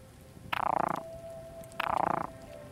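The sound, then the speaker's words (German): A frog croaks twice in a loud, pulsing call, each burst about half a second long with a short pause between, over a faint steady background hum. “Blau gefärbt, dann der Frosch.”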